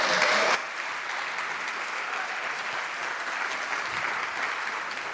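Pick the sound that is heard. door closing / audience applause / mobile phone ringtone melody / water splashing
audience applause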